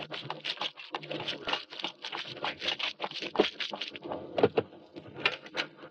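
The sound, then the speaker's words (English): Heavy rain pelts down by a ruined farmhouse near the front line in a dense, continuous patter, with sharp splashy hits scattered through a steady hiss. It sounds fairly loud, and no voices are heard. “Good Lord, it's pelting with rain.”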